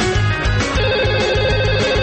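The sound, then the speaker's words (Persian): A telephone ringtone signalling an incoming listener call on a radio phone-in plays loudly and steadily, a bright electronic melody repeating over a pulsing low beat, with no voices. “همکنون به تماس‌های تلفنی شما با کارشناس برنامه یعنی خود بنده گوش فرا می‌دهیم.”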